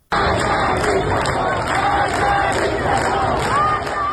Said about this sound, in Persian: در تهران منطقه نارمک هم مردم در تجمع خود در شامگاه شنبه شعار مرگ بر دیکتاتور سر دادند.